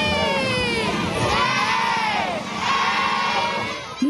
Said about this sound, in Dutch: Ja, geef ze een voor het applaus. Goed gedaan, toppers.